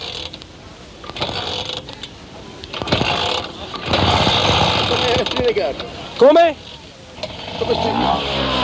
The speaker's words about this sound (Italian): allora, vogliamo far partire la Vespa?